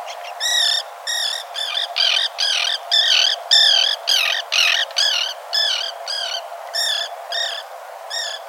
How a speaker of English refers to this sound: The answer in B, common tern.